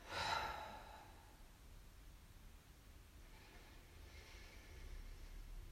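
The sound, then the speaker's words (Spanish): A deep, audible cleansing breath taken in through the nose, filling chest and abdomen, and released through the mouth in a breathy sighing exhale, followed a few seconds later by a softer, airy breath, with no talking. “Y tomamos unas cuantas respiraciones de limpieza a tu ritmo, tomando aire por la nariz, hinchando bien pecho y abdomen y soltando por la boca.”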